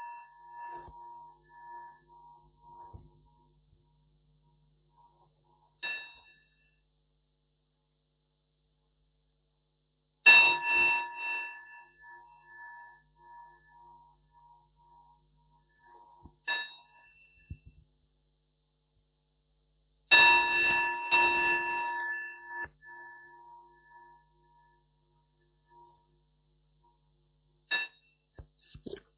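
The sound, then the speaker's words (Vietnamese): A ritual bell is struck several times at a Buddhist refuge ceremony, signalling participants to face the Three Jewels. Each ringing strike is sharp and bright, then fades in a long shimmering resonance, with quiet pauses between strikes and no voices. “Quý vị hướng về Tam Bảo theo tiếng chuông và lễ cầu gia bị lễ.”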